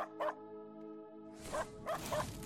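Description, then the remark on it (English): A puppy barks once, then after a pause lets out a quick cluster of three more yappy barks, loud over a steady low background hum. “That is a bad puppy!”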